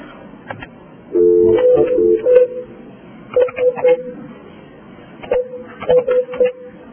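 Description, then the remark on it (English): A telephone number is dialed to call someone back during a commission meeting: a long tone, then several short bursts of touch-tone beeps in quick clusters with brief pauses between them. Moderately loud over faint background noise. “I'd like to give him a call back.”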